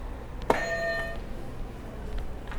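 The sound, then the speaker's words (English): A single buzzer press sounds with a sharp click-like onset and a bright electronic tone that rings for well under a second, then fades into faint room noise with no one speaking. “All right, you want to hit another buzzer for me?”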